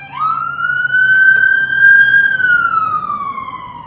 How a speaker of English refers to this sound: I'm just going to let this ambulance go right by.